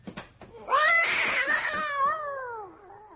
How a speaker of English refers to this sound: That bloody cat. I thought I said that cat was never to...